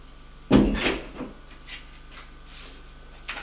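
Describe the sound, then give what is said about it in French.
A woman shuts a door with a single solid thud and a brief rattle, followed by quiet with faint shuffling and a small knock near the end. “Et elle ferme la porte.”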